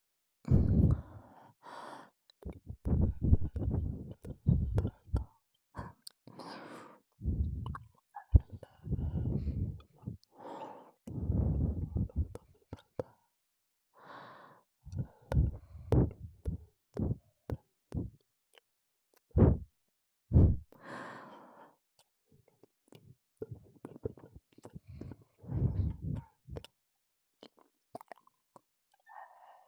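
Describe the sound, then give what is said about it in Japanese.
Intimate breathing right at the ear, soft exhales and sighs in an irregular rhythm mixed with faint wet mouth clicks and tongue sounds as a tongue tip moves almost touching the ear, with no talking. “舌が動く音と息遣いに聞き耳を立てて、この後の耳なめに胸を膨らませるといい。”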